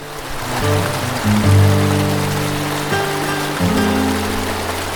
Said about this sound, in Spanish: Cambiaba en esa parte. Se escuchaba como si el agua cayera a un gran hueco.